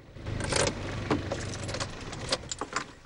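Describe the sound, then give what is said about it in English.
A car rolls to a stop, its engine a steady low rumble, with scattered metallic clicks and a jingle like keys. No one speaks. “Louise pulls up in her car.”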